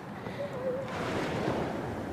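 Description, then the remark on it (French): Gentle sea waves lap softly and continuously while a light wind breathes across the microphone, a calm, steady wash of water with no voices. “On entend juste cette mélodie de la mer, ce petit bruit de vagues, puis le petit vent.”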